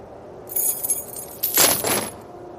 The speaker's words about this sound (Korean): 전임자는 마지막 근무날 더 이상 군소리 없이 당직 근무일지와 열쇠 꾸러미를 넘겼다.